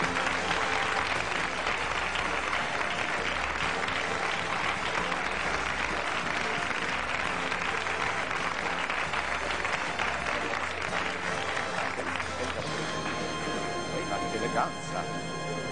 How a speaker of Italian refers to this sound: Il fior fiore dei concorrenti questa sera, pensate. Accogliamoli con un bel applauso, eccoli lì!